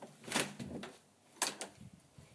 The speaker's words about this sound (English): Oh, I don't know because the living room door shut.